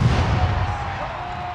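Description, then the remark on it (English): A deep cannon boom from a pack howitzer, fired by the Missouri ROTC cannon crew when Missouri scores at a University of Missouri football game, rolls out loudly and sustains over a dense stadium crowd roar, with a faint steady whistle-like tone running underneath. “The Missouri ROTC cannon crew has been firing a cannon every time Missouri scores during football games since 1954.”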